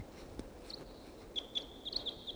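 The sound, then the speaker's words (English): A wild bird perched in the trees above a net calls softly: a thin, high whistled note swells into a steady tone punctuated by several brighter chirps, over a quiet background with no voices. “Wild bird sat down in the trees above the net.”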